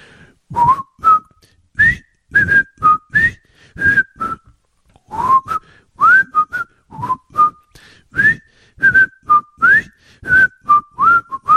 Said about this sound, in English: I won't tell you the name of the show. I'll whistle the name of the show.